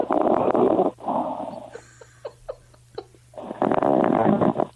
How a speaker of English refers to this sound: We believe he's fallen asleep because we think we can hear him snoring. All right? So let's just pump this up and see.